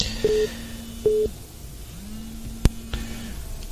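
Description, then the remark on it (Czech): Two short electronic beeps of a phone busy tone sound after a dropped call, followed by a low steady hum and a faint click on the quiet line. No one speaks. “Tak, Pavle, slyšíme se? No, ono to nějak asi spadlo.”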